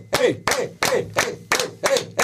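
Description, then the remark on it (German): An audience claps and cheers in a steady rhythm as a standing ovation, with about seven loud, evenly spaced bursts of clapping and shouting voices, energetic. “Ich klatsche schon mal, es ist super, und jetzt macht ihr es dann, das ist mein Standing Ovations.”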